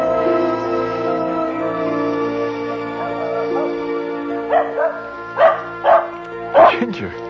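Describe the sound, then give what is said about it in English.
A dog, Ginger, gives a quick series of about five sharp barks and yips near the end, fairly loud, over a steady droning, tonal background hum. “She does. Dogs are different.”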